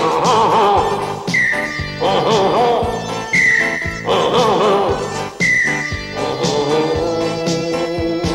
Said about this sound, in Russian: Но свалял я ерунду по весне в хмельном саду. Засвистала лихо трель моя пружинная.